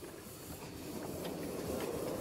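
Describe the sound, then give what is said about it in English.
A steam locomotive moves off as its regulator lever is opened, letting steam from the boiler to the cylinders to drive the pistons: a steady rumble and a broad hiss of steam, holding an even loudness throughout with faint clatter and no voices. “So that's this lever here, and this allows steam to go from the boiler to the cylinders to operate the pistons to drive the engine.”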